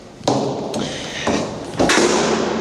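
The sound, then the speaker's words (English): A heavy door slams shut in an echoey stairwell, with a few sharp thuds and bangs ringing out in an echoey tail. No one speaks. “Sorry for the loud door slam. I'm in the stairwell, so it's kind of echoey.”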